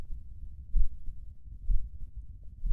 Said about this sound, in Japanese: 鼓動？鼓動が聞こえる？鼓動って何ある？